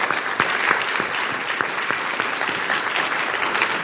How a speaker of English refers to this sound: Your congressman is here tonight, Congressman Cooper. Yeah, there he is. You can applaud the man. It's okay.